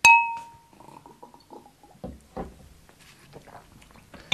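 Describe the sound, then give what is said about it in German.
Two ordinary drinking glasses clink once in a toast, a bright ringing tone that fades over about half a second, followed by soft clatter and a few dull thumps of glasses being handled. “Das vermenge ich hier in einem handelsüblichen Glas und trinke es.”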